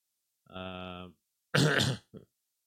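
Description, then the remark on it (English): A single sneeze: a drawn-out voiced "ah" builds up, then breaks into a loud, harsh, breathy burst, followed by a tiny trailing sniff. No one talks. “Bless you”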